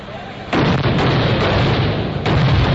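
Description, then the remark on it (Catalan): A loud, dense burst of crackling firecrackers and gunpowder blasts erupts after a brief quieter moment, continuing as a sustained barrage with a fresh surge near the end. “Des dels castells de focs artificials fins als correfocs, la pirotècnia s'ha convertit en un element imprescindible de la festa.”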